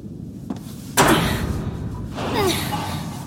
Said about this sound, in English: That door up ahead looks jammed. Where do I go? Please try opening the door.